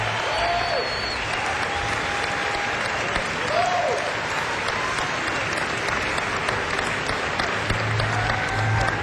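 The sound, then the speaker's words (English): Steady audience applause for a tenor saxophonist at a jazz performance fills the space for several seconds, a dense wash of clapping from a sizable crowd, with a few faint whistles rising above it. “Have a nice round of applause for Bryce Winston, tenor saxophone.”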